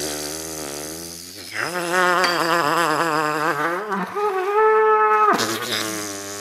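A hollowed-out animal horn is blown, giving a loud, buzzy, brassy drone that bends and wavers in pitch, then jumps to a higher sustained tone before dropping back down.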